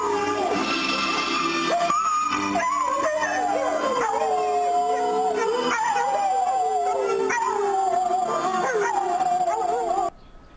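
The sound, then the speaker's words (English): Several dogs howl the Russian national anthem together in a loud, sustained chorus, their wavering voices rising and falling with the tune, continuing for about ten seconds before stopping abruptly. “Dogs sing the Russian national anthem.”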